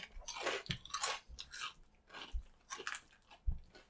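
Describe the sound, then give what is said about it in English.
Loud, crisp crunching of Flamin' Hot corn snack chips, from a bag labelled extra hot, being chewed, a rapid series of sharp bites and cracks spread across the whole clip, each with a bright, brittle crackle and low thumps. “These are less spicy than the, you know, the chili lemons.”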